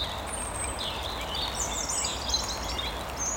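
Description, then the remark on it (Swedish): A European robin sings a thin, high warbling phrase over the steady hiss of falling rain, the song fairly faint, with no voices present. “Långt borta anas både talgoxe och bofink, lite utsuddade av regnet. Och så rödhaken.”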